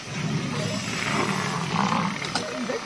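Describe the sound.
Lions roar in a steady, rough, growling rumble during a clash with crocodiles and a water buffalo herd, loud, with a busy outdoor wash of noise behind and possible voices mixed in.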